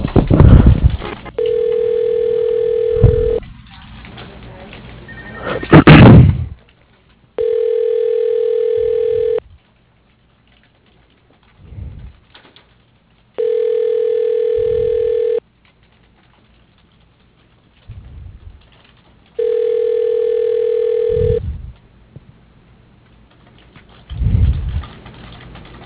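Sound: telephone ringback tone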